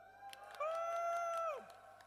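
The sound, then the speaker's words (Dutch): A live audience at the Antwerpse Brouwerijcompagnie cheers: one loud, sustained whoop holds a steady high pitch for about a second, then slides down, over a bed of crowd noise and a few scattered claps. “Deze keer live vanuit de Antwerpse Brouwerijcompagnie met een uitzinnige menigte als publiek.”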